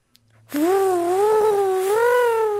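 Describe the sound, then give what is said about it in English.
A voice imitates a car sound effect: one loud, sustained, wavering vocal tone that gently rises and dips in pitch for about two seconds, preceded by a faint click. “can you do any car sound effects?”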